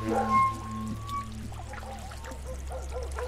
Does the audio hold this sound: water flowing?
yes